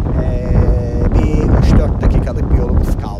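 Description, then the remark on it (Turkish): Steady low engine rumble of a sea bus ferry under way on a roughly 45-minute crossing, nearing arrival, with wind buffeting the microphone in gusts and faint muffled voices in the background. “Bu deniz otobüsü arkadaşlar. Ama rüzgar azaldı.”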